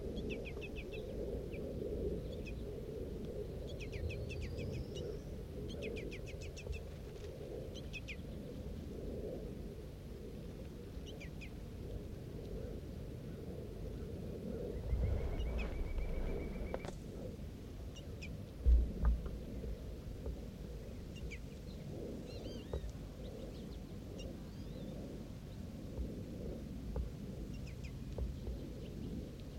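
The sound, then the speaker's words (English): Faint, scattered high chirps and short calls from juvenile and female birds in a tree, heard over a steady low rumble, with a brief thump partway through. No one speaks. “Juveniles and females, the bird in the tree.”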